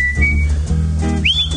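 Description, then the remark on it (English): A person whistles a short melody, clear and fairly loud, with a held note followed by an upward-sliding phrase over steady low musical accompaniment. “Well, I wish I could whistle like that.”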